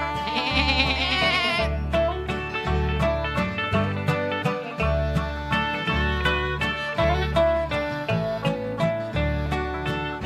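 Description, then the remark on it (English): Repeated billy goat bleats, wavering and nasal, ring out over a steady, pulsing musical accompaniment with a strong bass beat, filling the whole stretch at a fairly loud level. “My child has a billy goat, ba ba ba ba.”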